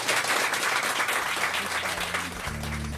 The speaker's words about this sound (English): Devlin McTinnon, let's give her a huge round of applause.